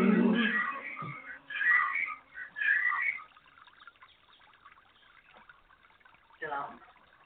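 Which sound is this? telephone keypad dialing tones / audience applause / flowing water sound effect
flowing water sound effect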